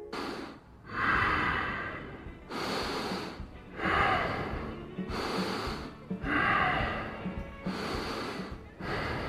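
Heavy, noisy breathing up close, a steady rhythm of rasping, slightly snorting inhales and exhales repeating roughly every couple of seconds, with no talking.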